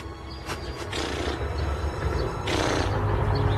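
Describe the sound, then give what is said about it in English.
A horse in a stable makes a few rough, breathy noises in short bursts over a steady rumbling background with no one speaking. “He looks like a friendly horse. A big brown one. Ah, here's one who's talking.”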